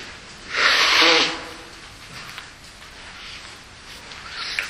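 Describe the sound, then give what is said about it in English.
A single loud, breathy honk of a speaker blowing their nose during a talk on Bible passages, lasting under a second, followed by quiet with faint rustling and a few soft sniffs. “Daniel chapter 12, and when you turn to that, I'll blow my nose.”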